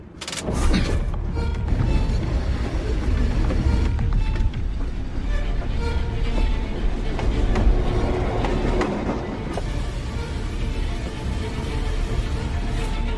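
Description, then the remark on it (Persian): A heavy train rumbles steadily on the rails, loud, with deep low-end roar and clattering metallic bursts throughout, no voices present. “یه قطار داره میاد.”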